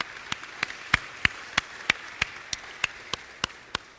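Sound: audience applause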